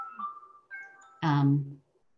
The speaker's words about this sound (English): There's my 10 minute timer.